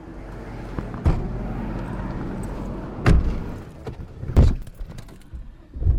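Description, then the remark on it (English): Someone gets into a car in New Orleans: several sharp thuds, including a door slamming shut, punctuate a steady low rumble, with faint rustling and movement between the knocks. “got in a car to show me around the parts of New Orleans now heavily populated by Latino immigrants.”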